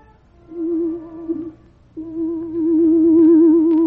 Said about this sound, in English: Presently, from far away, there came the faint sound of a horn.